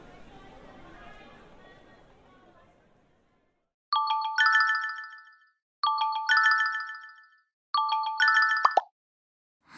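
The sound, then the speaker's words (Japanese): A mobile phone ringtone plays three clear, loud bursts of bright melodic tones at a steady rhythm, following a stretch of faint background chatter that fades away. “もしもし？あ、ごめん、さっき電話出れなくて。”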